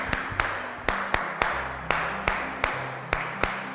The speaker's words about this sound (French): Très bien. Applaudissez pour l'autre.